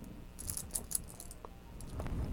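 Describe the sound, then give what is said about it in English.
A mother's keys jangle in a few quick metallic bursts, a light clinking rattle that comes and goes over a soft, low background rumble. The sound is fairly quiet, with no one speaking. “You know how you feel about mommy's keys.”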